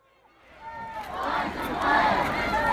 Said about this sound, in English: Elijah's death sparked outrage in Denver. People poured into the streets to protest.